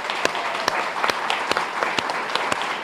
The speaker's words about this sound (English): So, how about a big round of applause for our Duval delegation?